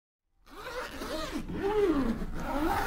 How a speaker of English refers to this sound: That is the zipper of my suitcase. And it is one of the most emotionally loaded sounds of my life. As a touring musician, that noise means it's van call, your morning deadline to meet all your bandmates in the hotel parking lot.